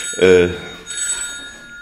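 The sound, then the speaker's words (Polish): A telephone rings with a bright electronic tone during an interview: one short, strong burst followed by a thinner, softer ringing that continues for about a second. “Ciągle dzwonią telefony do pana.”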